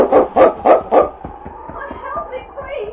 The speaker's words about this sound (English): The wind had risen and was blowing the snow at them in great gusts. Then suddenly King stopped up ahead and barked.